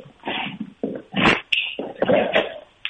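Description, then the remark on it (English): An eight-year-old female dog growls in short, rough bursts while playing tug-of-war, several gritty rumbles with brief pauses between them and no talking. “Yeah, hear that growl?”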